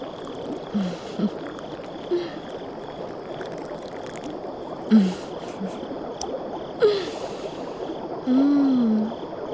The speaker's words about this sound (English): They have the most amazing champagne selection, flown in from Italy. So refined. Let me pour you a small shot, just so you can get a taste.